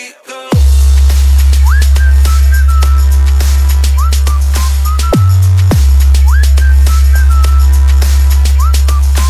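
A bright, tuneful whistle melody with sliding notes repeats over a loud, thumping dance beat and deep bass, with short gaps between phrases and no voices.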